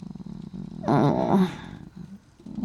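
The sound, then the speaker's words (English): A puppy lets out a short growl lasting under a second, rising and wavering in pitch, with a low rumbling background before and after and no talking. “Don't worry, little puppy.”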